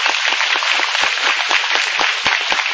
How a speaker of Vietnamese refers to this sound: Rồi cho ông một tràng pháo tay.